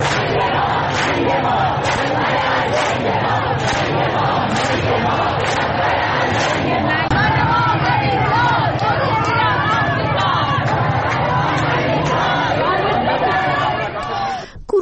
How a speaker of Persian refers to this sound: همینطور ویدیویی از خیابون حجاب به تهران منتشر شده که نشون میده که مردم معترض با شعار ننگ ما ننگ ما رهبر الدنگ ما دست به تجمع زدن. صدای اعتراض مردم تهران رو بشنویم.